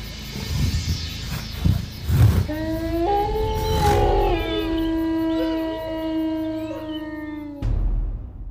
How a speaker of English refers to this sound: I let out a guttural growl I would never have thought myself capable of.